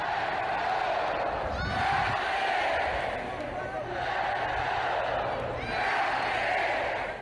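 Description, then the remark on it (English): A huge crowd of 57,052 West Virginia fans roars and cheers continuously at a football game against North Carolina State, recorded on a phone from the sidelines: a dense wall of voices swelling in waves with scattered whoops and shouts rising above the din, loud throughout. “Well, as North Carolina State rolled into town, I'll let this video I took from the sidelines on my phone and the 57,052 West Virginia fans who rolled in at the same time answer that question for me.”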